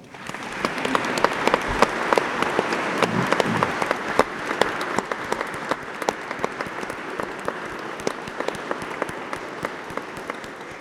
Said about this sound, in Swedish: Jag tycker vi ger honom en varm applåd.